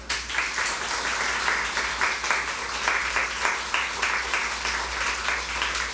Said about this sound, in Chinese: 弟兄姊妹早晨，可唔可以俾肖长声鼓励下我？唔好咁孤寒啊，拍大声啲啊！更加希望你用最热烈嘅掌声多谢主耶稣啊嘛！